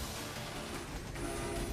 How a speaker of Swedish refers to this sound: Oh, ett tåg! Det går som på räls detta.